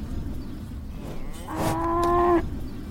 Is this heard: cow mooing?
yes